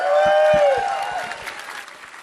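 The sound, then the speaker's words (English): A live audience at Empire Live at the O2 bursts into loud applause, dense clapping mixed with a rising-then-falling whoop at the start, the ovation gradually thinning and fading over a couple of seconds. “There's nothing like a spontaneous burst of applause.”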